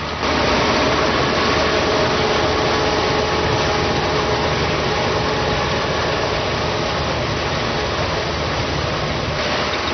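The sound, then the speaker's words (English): Combine harvester engines drone steadily and loudly as the machines reap rice in the rice fields of China, a dense, continuous rumble with mechanical rattling layered over it, holding constant throughout with no speech. “Insects, stirred up by the noisy machines, are snapped up by gangs of red-rumped swallows, including this year's youngsters, who will have fledged several weeks ago.”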